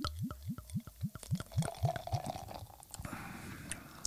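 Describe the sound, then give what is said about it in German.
Meckatzer Löwenpilz beer, a 4.8% bottom-fermented lager, glugs quickly from a bottle into a glass in a steady run of about nine gurgles, then settles into a soft fizzing of foam. No one speaks. “Meckatzer Löwenpilz. Prost, Männer. Ja, ist ein Pilz. Machen wir den akustischen.”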